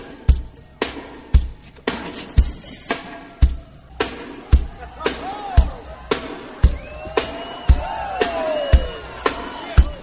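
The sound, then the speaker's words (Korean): Scattered whoops and cheers from a small group of show staff rise over a loud, driving dance beat with steady, punchy thumps as a singer rehearses his dance to a 1983 song, the shouts swelling in the second half. “스태프들은 그의 연기 같은 춤을 보면서 환호합니다.”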